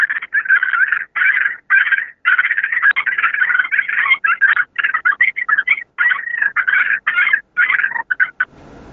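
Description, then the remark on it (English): Loud, raspy turkey fighting purrs, a rapid rattling chatter in choppy bursts with brief gaps, running nearly nine seconds with no talking. “And a lot of times, just a fighting sound, you know, a fighting purr sound will call the hens to you a lot of times.”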